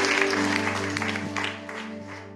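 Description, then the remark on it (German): A church audience applauds after a sermon, with dense, continuous clapping over a sustained low musical tone, the clapping easing slightly toward the end. “Komm, wir geben mal einen Applaus für all diejenigen, die sich gerade entschieden haben.”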